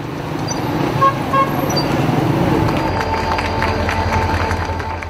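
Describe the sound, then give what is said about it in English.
The first freight train connecting China and Iran, loaded with Chinese goods, rumbles into Tehran with a steady low roar, while short horn toots and a crowd's murmur rise over it; the din stays loud and dense throughout. “Here's the sound just last week of the first train connecting China and Iran, arriving in Tehran loaded with Chinese goods.”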